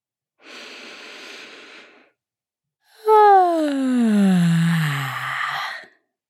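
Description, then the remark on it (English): A long, airy breath drawn in through the nose, then after a short pause a loud, voiced sigh breathed out through the mouth that slides downward in pitch and fades away. “Take in a big, big breath through your nose and then sigh it out your mouth.”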